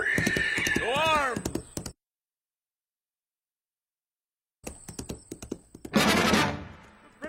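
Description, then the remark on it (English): A shrill, wavering horse whinny opens, then silence, then a quick run of sharp hoof clip-clops with a loud, noisy rush of sound near the end, as a rider sets off on the horse in a comic skit of Paul Revere's midnight ride. “Get on the horse”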